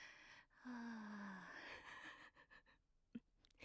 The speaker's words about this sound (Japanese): ちょっと息切れ